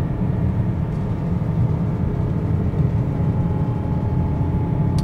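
The 707-horsepower engine of a sporty SUV, with over 90 kg of torque, roars loudly and continuously as the driver downshifts and accelerates, a dense, low rumbling drone that holds steady for about five seconds with no voices over it.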